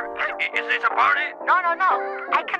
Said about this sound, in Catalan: nosaltres deixem amb la cançó …